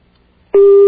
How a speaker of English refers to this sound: That's my personal dial tone. Here I go. Fortunately, nobody can decode these little beeps because they all sound the same.